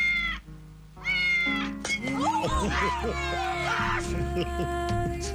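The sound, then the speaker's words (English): A cat named Ocho meows loudly, a couple of drawn-out cries at first, then more wavering meows tangled with other voices and background sound. “Memories Ocho, the cat.”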